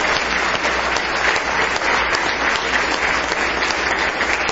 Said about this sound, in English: Somebody say praise the Lord. Give me one more hand clap of praise.